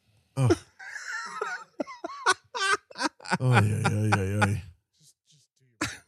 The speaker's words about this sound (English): Every time you cough, it looks like you're dabbing a little bit.